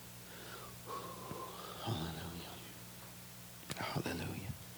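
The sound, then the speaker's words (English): A baby snores with soft, wheezy, whistling breaths, followed by a couple of short snorty snuffles near the end, over a steady low background hum. “Baby's over here snoring, that's good.”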